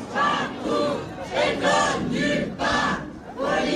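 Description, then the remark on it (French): A crowd of striking high school staff, grouped behind the doors of a room at the school where rectorate officials were speaking to the press, shouting their discontent together, their loud voices rising in repeated, rhythmic chant-like bursts, roughly five in a few seconds, with no clear individual speech. “Le personnel gréviste s'est regroupé derrière les portes pour crier son mécontentement.”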